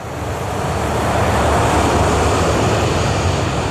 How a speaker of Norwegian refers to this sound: Nå ser han avkjøringen litt lenger fremme til venstre, og begynner å svinge skarpt, mens de ser KLM-flyet dundre mot dem.